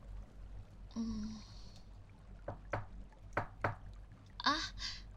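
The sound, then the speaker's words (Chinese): A handful of sharp knocks on a door, spaced unevenly in two pairs, ring out at moderate volume as someone arrives bringing wine. Brief tonal chimes sound just before and after against a quiet hum. “是有人敲门吗？”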